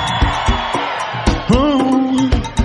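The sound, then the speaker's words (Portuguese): A lively crowd shouts and cheers loudly while raising their hands, with one long sustained whoop rising above the din midway, all over a steady rhythmic pulse of claps or beats. “Ou melhor, quem é do babado, levanta a mão e dá um grito.”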